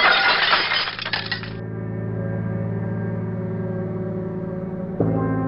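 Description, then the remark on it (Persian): A fist slams down on a glass table, shattering both the table and its glass: a loud crash of breaking glass bursts out at the start and scatters for about a second, then gives way to a steady, droning tonal hum with a fresh swell near the end. “احمد با مشتش کوبید روی میز شیشه‌ای که جلوش بود، جوری که هم میز و هم شیشه خورد شدن.”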